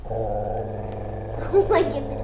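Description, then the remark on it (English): A voice imitates a low, rumbling growl heard from the back of a car on the interstate while driving back from Mississippi, sustained for about two seconds, rising into a rougher, strained burst near the end; fairly loud. “So we were driving back from Mississippi, and we heard growling.”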